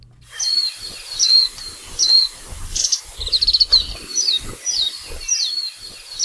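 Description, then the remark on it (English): A warbling white-eye (mejiro), a small green and gray songbird, sings a rapid, high, twittering warble of quick chirps and trills in short bursts, clear, with no voices present. “The warbling wide-eye, or Majiro, is a non-native bird that was first introduced to Hawaii from Japan in 1929.”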